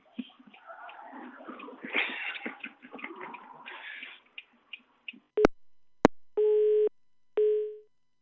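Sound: telephone beeps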